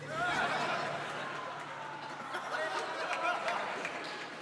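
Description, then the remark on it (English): A crowd applauds steadily for several seconds, a dense wash of clapping with bits of laughter and chatter mixed in, holding at an even level throughout. “You get applause from the rigmarole over here.”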